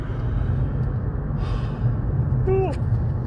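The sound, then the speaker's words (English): A single yawn: a breathy intake of air followed by a short, drawn-out voiced tone that slides downward, set against a steady low background hum. “Hey, yawning over here.”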